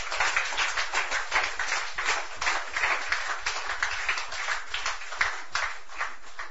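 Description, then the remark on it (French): A crowd claps to applaud God during a sermon, many hands overlapping in a dense, fairly loud patter that holds an even level throughout, with no voices standing out. “Applaudis bon Dieu pour ça.”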